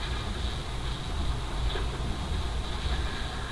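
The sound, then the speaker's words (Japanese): Steady, dense rumble of the Hokutosei No. 1 train rolling along the rails, heard from inside the carriage, with low-end roar and a continuous mechanical hum; no one speaks. “なおこの先列車少々揺れますのでお立ちのお客様はご注意ください。本日は北斗星1号にご乗車いただきましてありがとうございました。”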